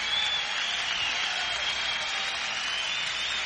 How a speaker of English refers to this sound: A nice round of applause for Mr. Raymond Gomez for that beautiful guitar solo that he played.